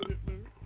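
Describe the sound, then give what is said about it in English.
A short, low, guttural burp, rumbling in two quick pulses and lasting under a second. “That was a burp.”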